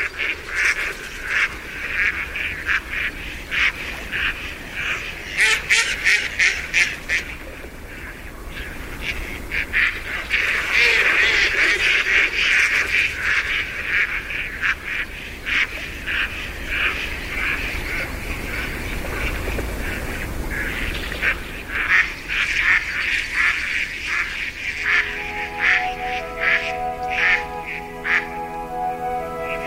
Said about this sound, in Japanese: 朝の小鳥、今朝は東京郊外の池で春を待つマガモの声をお届けしました。